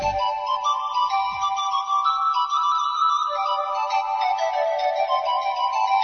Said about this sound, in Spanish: Tenemos un montón de contenidos, un montón de cosas que contarte, pero antes vamos a tomarnos un pequeño descansito musical. Sí, hoy empezamos con música, hay que hacer las cosas un poquito diferentes.